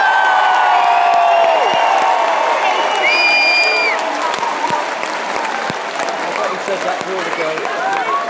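A large concert crowd cheers and applauds loudly and continuously, with whoops and shouts rising above dense clapping that gradually settles slightly toward the end.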